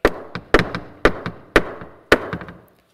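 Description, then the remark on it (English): Knocking on a door, loud, in repeated bursts of two or three sharp raps, each set ringing briefly before the next, with no voices. “He's knocking. He says he's standing at the door and knocking.”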